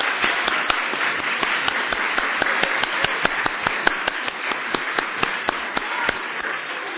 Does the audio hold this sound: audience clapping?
yes